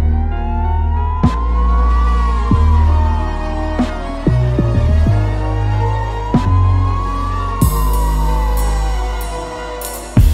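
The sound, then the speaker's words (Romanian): An ambulance siren wails in slow rising and falling sweeps, loud and steady, over a heavy, thumping bass beat with occasional sharp hits. “Sunt 30 de ani de când salvarea e pe drum.”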